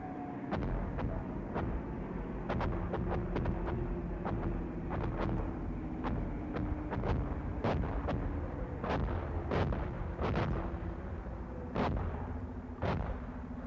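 Rapid, irregular bursts of German anti-aircraft gunfire shooting at Allied aircraft, with booming shell explosions high in the air, dozens of sharp reports over a constant low rumble, loud and continuous with no voices. The guns stand behind a bean field in the south of the Netherlands.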